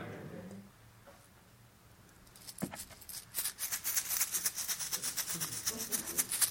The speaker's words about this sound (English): Suppose I jingled a bunch of coins in my pocket or in this bag or dropped some quarters on a marble floor. If you were to close your eyes and listen to the sound that money makes, what would it remind you of?